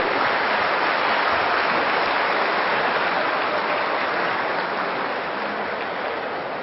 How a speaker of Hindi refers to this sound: जोर से ताली बजाएंगे।